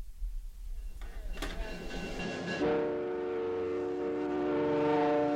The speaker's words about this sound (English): The train between Churchill and Winnipeg. Coming up later, we visit some of the people who ride one of Canada's most isolated railroads.